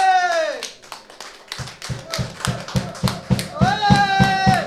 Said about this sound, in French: On peut les applaudir, s'il vous plaît.